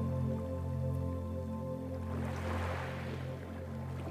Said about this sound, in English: The water is lapping at your feet, and it's warm and pleasant.